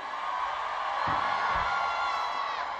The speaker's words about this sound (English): Especially to the ladies. I want to hear all the ladies for this year coming up. Scream!